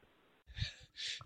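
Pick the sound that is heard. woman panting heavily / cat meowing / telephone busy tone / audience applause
woman panting heavily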